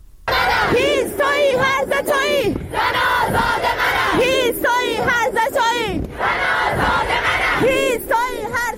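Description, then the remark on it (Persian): A crowd of students gathered at the University of Science and Culture in Tehran, Iran, chants slogans in unison, loud rhythmic shouted phrases repeating in steady bursts with brief pauses between them, voices rising and falling together throughout. “همچنین تصاویر دریافتی نشان می دهد که دانشجویان دانشگاه علم و فرهنگ تهران امروز تجمع کرده و شعارهایی سر دادند.”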